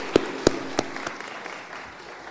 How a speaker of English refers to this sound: Had a lot of clapping this morning. That's okay.